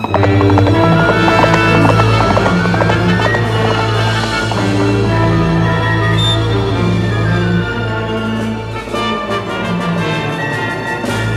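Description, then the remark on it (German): Horse hooves clip-clop in a steady, rhythmic gait, fairly loud and continuous for the whole stretch, as a rider guides the horse to a ford across the Smoky Hill river, over a sustained tonal musical backdrop that eases slightly near the end. “Wenig später sahen die beiden den Fluss vor sich, und mit sicherem Instinkt lenkte der Apache sein Pferd genau an die Stelle, wo sich die Furt befand.”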